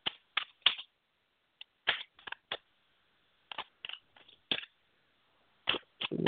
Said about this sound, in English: Okay, for love, I'm shuffling the cards right now.